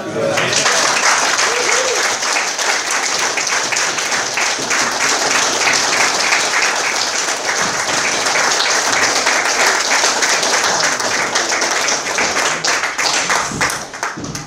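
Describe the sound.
A room full of people applauding steadily, a loud, dense wash of clapping that holds for the whole stretch with a few voices mixed in beneath it.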